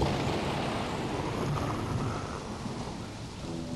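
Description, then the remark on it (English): Steady rain pours in a dense, continuous hiss while low thunder rumbles underneath, opening a song; a full stormy wash with no voices and nothing else breaking through. “He said, we got to put in some rain and thunder.”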